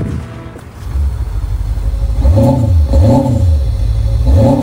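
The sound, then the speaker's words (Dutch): A big diesel car engine is started and rumbles low, then revs hard three or four times, each surge climbing and dropping in pitch, loud and steady with no voices. “Dikke diesel, hè?”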